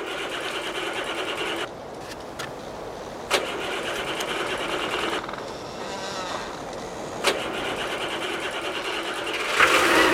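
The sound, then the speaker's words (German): A motor engine turns over and keeps running, a dense, rattling mechanical drone, with a brief dip early on and a few sharp clicks punctuating the steady noise. “Der Motor läuft.”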